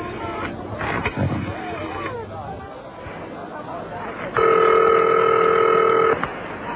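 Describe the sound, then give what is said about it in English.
A telephone being dialed, with muffled handling and clicks at first, then a loud, steady electronic phone tone held for nearly two seconds before cutting off, over a faint background murmur. “I'm calling something now. Phone's over there.”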